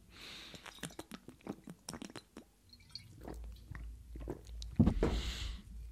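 Someone takes a sip of water: a run of small wet mouth clicks and smacks, then a soft gulp and a low swallowing rumble, with no talking.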